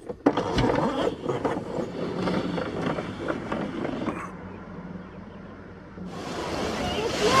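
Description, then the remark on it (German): A few seconds of rustling and clicking as a classic car air conditioning system is switched on, followed by a brief lull, then a steady, hissing rush of blowing air that holds to the end. “Ich habe noch eine richtig klassische Klimaanlage an Bord. Und so schaltet man sie ein.”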